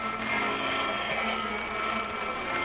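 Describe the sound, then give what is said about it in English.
A vacuum cleaner runs steadily and fairly loud, a constant motor whine and broad roar that holds the same pitch and level throughout, with no voices. “Run the vacuum.”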